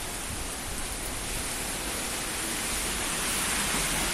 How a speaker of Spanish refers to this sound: Es 13 de octubre y, como estaba previsto, ha vuelto el sonido de esta mañana, el de la lluvia.